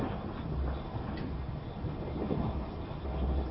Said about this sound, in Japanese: 列車は青森県の野辺地青森間をただいま走行しております。野辺地青森間を走行しております。